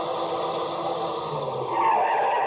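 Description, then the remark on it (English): A car engine whines steadily as it approaches over a rise in a rough road in the dark, then its tires screech in a loud, sustained skid toward a stop. No voices are heard. “I heard the whine of a car coming over the rise in the rough road as the first glimmer of the headlights stabbed the darkness.”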